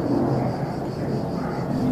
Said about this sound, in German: aber angefangen hat es mit Krach, mit einem Flugzeug, das über uns kreiste.